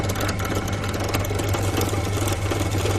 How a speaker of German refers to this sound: Und jetzt werde ich mal dieses Kunststoffstück durchbohren und ihr könnt akustisch nachvollziehen, wie sich das anhört. Ich schalte jetzt mal die Bohrmaschine ein und senke jetzt den Bohrkopf ab.